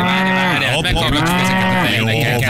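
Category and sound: sound effect, toy cow mooing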